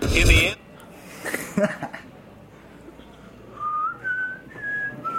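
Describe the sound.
After a short burst of noise and a pause, a Tri-State Whistling Champion whistles a rendition of Flight of the Bumblebees: a series of clear, sustained notes that step upward, ending on a lower one.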